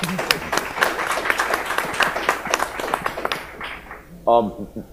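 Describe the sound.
An audience applauds with dense, steady clapping for about four seconds before it thins and fades, and then a voice starts speaking.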